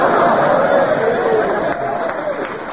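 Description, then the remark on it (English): A Yorkshire studio audience claps steadily for a few seconds, a dense, even wash of applause with a faint crowd murmur mixed in, fairly loud. “I think they clapped because they thought we were going to do it.”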